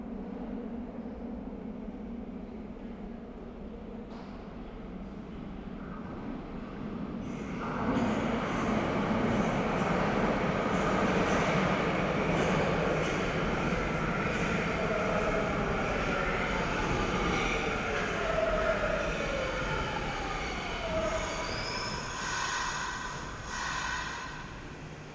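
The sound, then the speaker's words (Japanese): A counterclockwise Meijo Line subway train rumbles into a station, its roar swelling after a few seconds and holding steady, with faint squealing tones from the wheels or brakes as it slows alongside the platform. “名城線左回りが参ります。黄色い線までお下がりください。”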